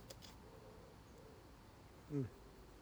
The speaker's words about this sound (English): Here. Pigeon, come on. Kukuru, kuku, kukuru, kuku. Brr, brr, brr.